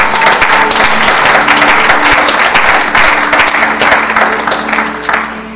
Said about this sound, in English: Now let's clap our hands and sing God is doing something else.